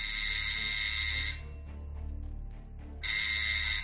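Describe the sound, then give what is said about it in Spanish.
The doorbell of studio number 10 is rung by the building's porter: it rings twice in long, harsh buzzing bursts, separated by a short, quieter pause. No one speaks. “llamó varias veces al timbre del estudio número 10.”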